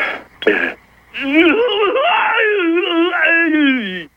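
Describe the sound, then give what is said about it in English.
A brief sharp burst of sound, then a long, loud, wavering scream lasting nearly three seconds, its pitch rising and falling before sliding down at the end, as a person yells while serving a tennis ball. “Is there a word for when you hear a tennis player hitting the ball and kind of screaming?”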